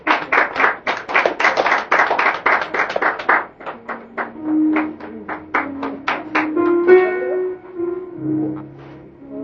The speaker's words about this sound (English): Come on, clap your hand. They're coming.